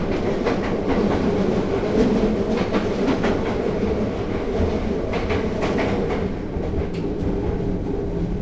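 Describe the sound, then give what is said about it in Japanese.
A train carriage rolls steadily along the rails, a continuous loud rumble with repeated clacking of wheels over track joints, with no voices. The train's rear two cars are to be uncoupled at the station. “この電車、2両電車のため、当駅で後ろの2両を切り離します。”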